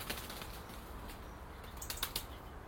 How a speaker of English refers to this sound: Stupid birds. Those wood pigeons. Get yourself in the right flap. Is that where that expression came from? Was it? Ah, got me thinking now. Because they're forever crashing in and out of trees and flapping like mad